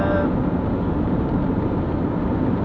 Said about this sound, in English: This is a combine here, look.